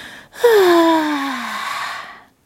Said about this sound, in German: Clara bekommt dabei so furchtbare Langeweile, dass sie nochmal laut und lange gähnen muss.